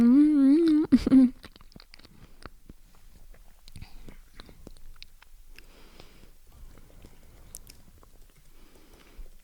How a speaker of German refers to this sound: Ihr seid gerade verwirrt, aber denkt mal, ich esse meine Banane, weil das mache ich eh nebenbei gar nicht. Ihr könntet mich schmatzen hören, vielleicht klappt das ja.